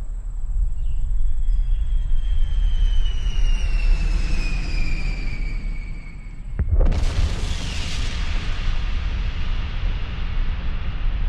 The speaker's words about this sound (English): A cloud of smoke. They dropped bombs constantly for 200 straight days.